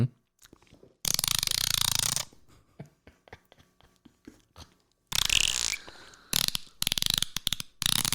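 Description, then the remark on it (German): Someone mimics a dolphin with loud bursts of high, squealing chatter and a stretch of rapid, rattling clicks, the sounds coming in uneven blasts with brief gaps between them. “Das hört sich echt an wie ein Delfin.”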